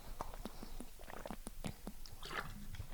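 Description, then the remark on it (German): Quiet swallowing and wet mouth sounds, a series of short gulps and soft liquid clicks spread over a few seconds, as someone takes sips of water. “Ich trinke nochmal einen Schluck Wasser und dann erkläre ich euch erstmal die Vorbereitung, die du treffen musst.”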